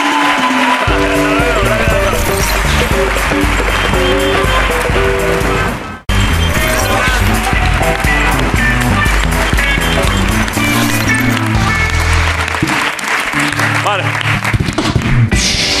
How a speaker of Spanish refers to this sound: Os despido a los dos. Un aplauso para Jorge Ponte y para Inés Elda.